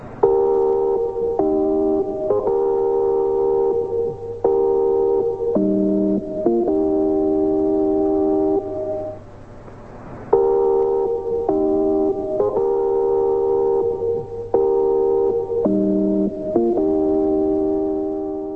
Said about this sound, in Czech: Právě před 60 lety se z německého Mnichova ozvala tato znělka.